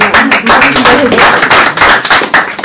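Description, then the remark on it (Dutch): Audience applause as a talk is wrapped up fills the whole stretch, a dense, steady patter of many hands clapping at once with no pauses and no voices standing out. “Nou ja, applaus is er anders, ik denk dat we dan afronden.”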